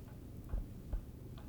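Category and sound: household object, clock ticking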